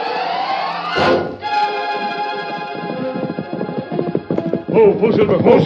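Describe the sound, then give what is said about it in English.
A horse whinnies, followed by a steady run of hooves clip-clopping at a fairly quick, even pace, loud, with no one talking, in a Lone Ranger drama. “His horse is here, but he's nowhere in sight.”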